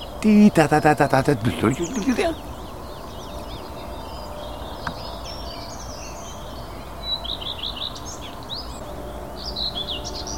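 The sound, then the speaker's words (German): A voice speaks briefly at the start, then a songbird sings repeated high, twittering phrases made of two motifs, a second motif added after the first, the song carrying over a quiet outdoor background with other faint birds. “Der hat zwei Motive hier. Singt noch ein anderes Motiv hinten dran.”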